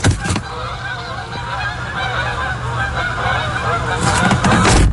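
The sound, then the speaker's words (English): A flock of Canada geese honks continuously, many overlapping calls forming a dense, raucous chorus outdoors, with steady background rumble and a few louder bursts near the start and end. “Cobra chickens, man, I tell ya.”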